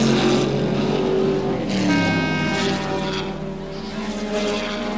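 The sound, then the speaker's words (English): Racing car engines roar steadily, with rising and falling pitch as top racing cars from all over the world speed past one after another on a tough course, loud throughout. “The top racing cars from all over the world, tuned to a T and being put to the test on a really tough course.”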